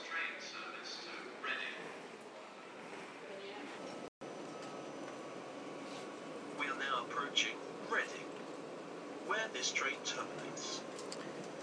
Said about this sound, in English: Been on this train for just over an hour, and as you can hear, we're now approaching Reading.